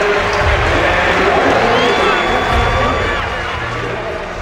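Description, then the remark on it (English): A huge stadium crowd at the U.S. Olympic trials roars and cheers continuously as decathlete Dan O'Brien comes home, a dense wall of loud, excited voices with scattered whistles and shouts that stays strong before easing slightly toward the end. “Let's let the crowd carry him home here.”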